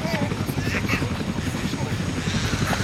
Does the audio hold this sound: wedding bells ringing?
no